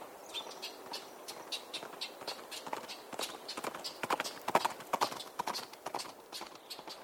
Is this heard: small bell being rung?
no